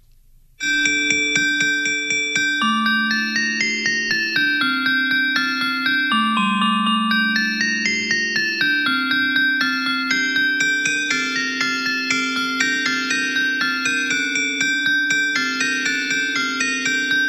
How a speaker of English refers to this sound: This one, they came up with the name. The AI came up with the music and the name. This is called Cinnamon Holly Bells.